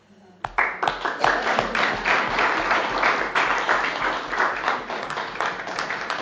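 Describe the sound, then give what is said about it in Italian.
An audience bursts into sustained applause, many hands clapping in a dense, steady patter that starts abruptly and holds at a strong level throughout. “Seguaci, veramente un applauso particolare.”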